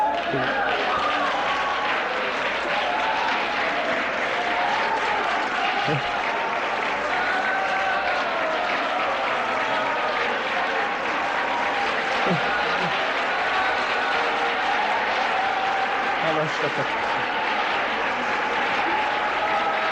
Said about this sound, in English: I thought, my, we ask sometimes for praise to our God and we clap our hands a few seconds, and tonight I just got to thinking, wouldn't it be something if we really brought the King back?